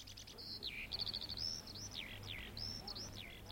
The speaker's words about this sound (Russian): Очень уж трудно молчать весной. Над проталинками запели жаворонки. Сколько проталин, столько и жаворонков.